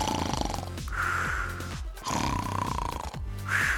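Loud, rasping snores repeat in quick succession, each a rough, throaty rumble with only brief pauses between them, with no talking.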